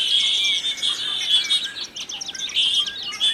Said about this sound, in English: Whistles and trills, squeaks, rattles and gurgles, wavering in intensity but with no clear pattern, like the mingled sounds of an orchestra of birds tuning up.